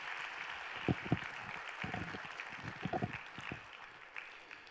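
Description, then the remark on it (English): A church audience gives God a round of applause during a sermon, a steady wash of clapping with a few louder individual claps and brief vocal bursts standing out, moderately loud, no clear speech. “Give God a round of applause if you believe that.”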